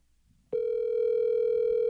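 A telephone ringing tone on an outgoing live phone call during a live show, a steady, loud electronic hum that starts abruptly after a brief quiet moment and holds unbroken to the end, with no voices.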